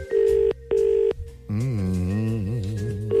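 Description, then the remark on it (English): A telephone ringback tone on a call placed from a radio studio: two steady, evenly spaced buzzing bursts, followed by a long wavering, voice-like drone, with another ring starting at the very end. “It's ringing again.”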